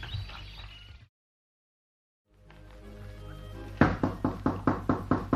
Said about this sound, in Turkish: Kim ola ki? Kapı vurmaktan ne olur? Eyvallah. Belli ki yabancıdır.